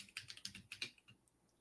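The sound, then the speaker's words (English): Rapid typing on a CDO Stellar mechanical keyboard with a little screen, a quick burst of sharp clicky keystrokes that trails off into a few scattered taps, with no talking. “I'm using the CDO Stellar mechanical keyboard.”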